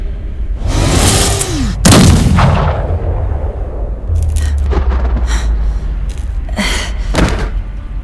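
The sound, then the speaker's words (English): Heavy blasts from a triple-barrel hand cannon boom out, a sharp, loud shot followed by several more scattered bursts, each trailing off into a low rumbling echo. No one speaks. “A triple-barrel hand cannon got the job done just fine.”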